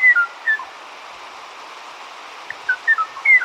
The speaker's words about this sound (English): The tranquil song of the Kauai O'o graced the high-dense forests of Kauai until 1987, when it was heard no more. The voice of only one member of this family of birds, now all extinct, remains immortalized on tape.